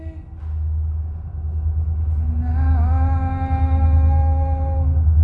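A heavy, steady low rumble of a train passing overhead, joined midway by sustained tonal squeals and a higher screech that swell and hold as the rumble grows louder, with no talking.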